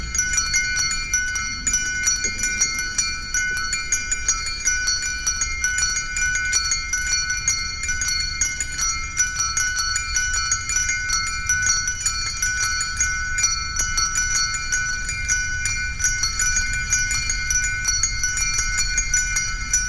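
Bells ring continuously in a bell prayer from an Eastern disc, played in a special Christmas music program on Radio Free Europe; their bright overlapping tones are sustained and shimmering at a steady, fairly loud level throughout, with rapid repeated strikes and no voices.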